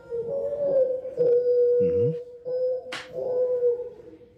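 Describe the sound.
A voice imitates a mourning dove's cooing, drawing out long, low, wavering hoots, with a short breathy rush of noise near the end.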